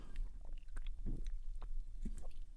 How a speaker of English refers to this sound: All right. I realize I didn't take a sip of my beverage du jour.